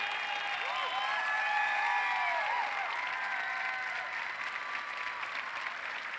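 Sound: audience applause and cheering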